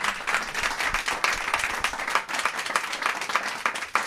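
Steady, warm audience applause for a co-moderator at a Cologne mayoral election event fills the whole stretch, a dense crackle of many hands clapping at an even, sustained level with no voices standing out.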